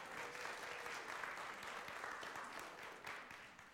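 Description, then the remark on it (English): Sustained audience applause given as a round of applause for God after a Merry Christmas chorus, a dense steady wash of many hands clapping at a fairly even loudness for several seconds, with no voices standing out. “Give God a round of applause if you would.”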